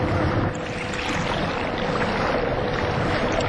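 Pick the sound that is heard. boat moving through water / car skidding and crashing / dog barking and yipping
boat moving through water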